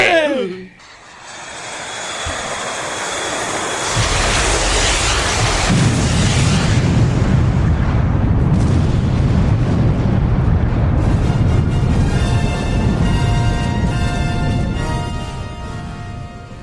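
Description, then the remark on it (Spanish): Missiles destroy enemy aircraft: a loud, sustained roar of jet engines swells into a rumbling blast, with crackling debris and a long, booming explosive rush that slowly fades, dense throughout. “¿Destruir los aviones enemigos con nuestros misiles?”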